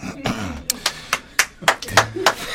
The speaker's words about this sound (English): You know, there's 73 people here in the studio and only two of us are clapping.